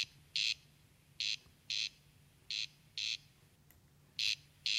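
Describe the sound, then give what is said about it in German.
A corncrake's rasping call, a recording played back on Michael Schödel's phone in the Murnauer Moos: short harsh bursts arriving in uneven pairs and singles, loud against a low hum, with no voices. “Dafür zeigt mir Michael Schödel eine Aufnahme des markanten Rufes selbst auf seinem Handy.”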